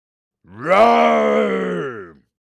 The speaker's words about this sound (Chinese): 狮子发出了可怕的吼叫声，天花板哗啦哗啦地摇晃起来，蛋糕散落了一地，爸爸妈妈还有姐姐都一屁股坐到了地上。